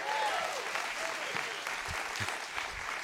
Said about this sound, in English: Give them all a hand. Good job.